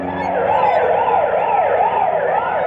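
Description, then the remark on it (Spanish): A police car siren wails loudly and steadily, its pitch sweeping up and down in a fast repeating cycle, continuous with no voices. “se siente a salvo a pesar de escuchar la sirena.”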